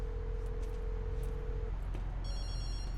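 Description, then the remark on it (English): A mobile phone lying on the ground in a hospital intake bay rings with a bright, electronic ringtone of stacked high tones starting partway through, over a steady low hum and quiet background, with no one talking. “In the intake bay, Andrew walks between two ambulances and makes a call.”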